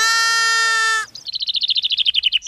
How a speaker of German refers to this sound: Die Pollerwiesen in Köln. Direkt am Rhein grasen an diesem Frühlingstag jede Menge Schafe. Friedlich und vergnügt. Große und kleine. Das ist eine Herde von rund 400 Mutterschafen.